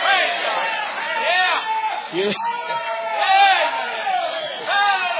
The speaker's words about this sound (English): Go ahead and praise Him. Thank God. Hallelujah. I like to hear shouting.